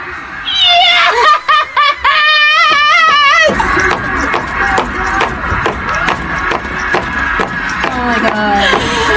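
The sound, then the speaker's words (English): A run of about 16 repeated foot stomps, loud thuds in a steady rhythm, mixed with high, wavering laughter and excited vocal squeals throughout. “I think there's 16 stomps I heard there.”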